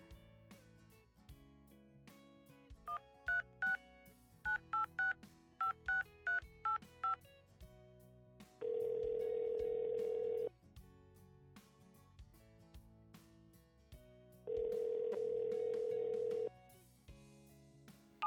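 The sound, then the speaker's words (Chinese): A quick series of about a dozen short, clipped phone keypad beeps as a number is dialed to call a boyfriend, followed by two long, steady ringback tones separated by a pause, with a quiet background underneath and no talking. “再给亲爱的他打个电话吧。”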